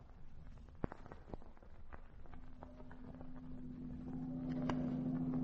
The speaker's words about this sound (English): Well, we'll leave the car right here. I think I've backed up almost to the spot where we left Frank and Spud